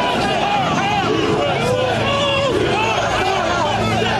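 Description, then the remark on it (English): A dense, steady roar of a large pro-Trump crowd outside Congress as it tries to certify the election: many overlapping voices shouting and calling out at once, loud and continuous with no pauses, a churning mass of chatter throughout. “Outside, the crowd is bearing down on them.”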